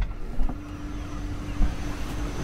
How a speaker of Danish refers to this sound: Truck-lyd og måger. Og køle, sådan en køleboks-lyd. Køleapparater.